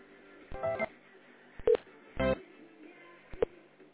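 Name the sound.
telephone call transfer tones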